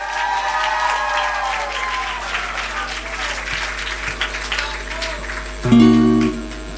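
Steady audience applause fills the space, a dense wash of many hands clapping at moderate volume, with a brief louder burst and some crowd noise near the end.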